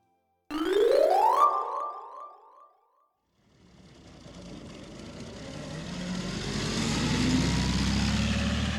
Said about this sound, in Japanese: あっと、バスが来たみたいだから乗りましょう。